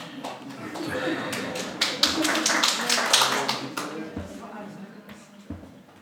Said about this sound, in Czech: Výborně, bratře, zatleskám bratrovi, jako jo, protože